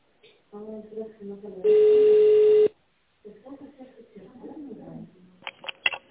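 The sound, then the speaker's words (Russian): A loud, steady telephone beep, the signal to leave a voicemail message, holds for about a second on a single pitch, sitting between stretches of a speaking voice before and after it. “возникшем при приеме препарата, нажмите 0 и оставьте сообщение после сигнала.”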